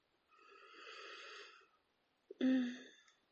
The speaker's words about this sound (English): Sometimes I like to bundle it all up and press my face in deep and take lots of long, nice, deep sniffs.